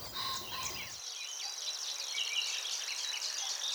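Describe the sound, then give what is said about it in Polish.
A reed bird, a grasshopper warbler, sings a scratchy, creaking song with rapid trills continuously, busy and chattering, then stops, with a faint low rumble only in the first second and no voices. “Tak, bowiem ptaki trzcinowe, niezwykle interesujące. Te wszystkie takie skrzypiąco, trzeszcząco, trykoczące.”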